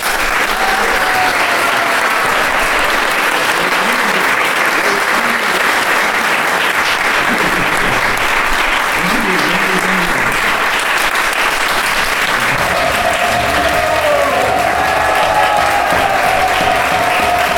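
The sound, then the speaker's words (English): Sustained applause from a large audience, loud and dense with continuous clapping throughout, a few whistles or cheers rising near the end. “Let's give him one more round of applause.”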